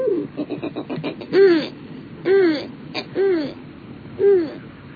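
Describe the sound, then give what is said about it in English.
A snowy owl gives four harsh, rasping calls at roughly one-second intervals, each a short rising-and-falling bark, loud, with softer chatter-like notes before the first. “Snowy owls are a mystery to us in many ways.”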